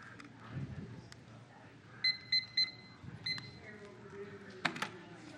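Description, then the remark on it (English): A countdown timer alarm, used to time a three-minute group discussion, beeps in a quick burst of three sharp electronic tones, then a shorter, fainter burst follows, over a low murmur of background noise and indistinct voices. “Took me 2 services to figure out the timer.”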